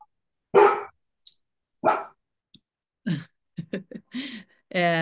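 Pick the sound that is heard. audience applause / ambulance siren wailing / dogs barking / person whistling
dogs barking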